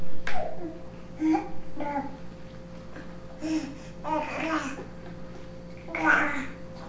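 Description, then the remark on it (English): A baby boy makes a string of short guttural, growly vocal sounds with a few higher squeaky bursts while trying to pull himself out of his chair, fairly loud and irregular, with brief pauses between them and a steady low hum underneath. “Kind of a guttural little sound there.”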